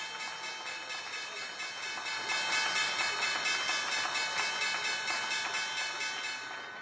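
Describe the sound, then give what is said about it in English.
A stock exchange opening bell rings on a Thursday morning, loudly and continuously for about seven seconds, a steady metallic clangor rich in bright overtones, set over a constant rushing wash of noise. “That was the opening bell on this Thursday morning.”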